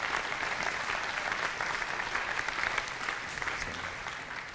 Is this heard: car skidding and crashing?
no